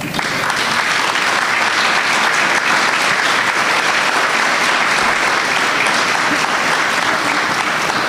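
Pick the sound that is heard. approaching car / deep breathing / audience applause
audience applause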